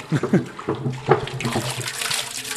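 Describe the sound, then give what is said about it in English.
Water pours steadily into a brew kettle for brewing with malt, hops and yeast before the gas is turned on, a continuous rushing splash, with muffled voices murmuring underneath. “pours water into the brew kettle and turns the gas on.”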